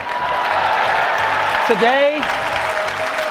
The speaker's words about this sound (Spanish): La audiencia estalló en aplausos y asombro. La expectación se convirtió en una especie de incredulidad colectiva.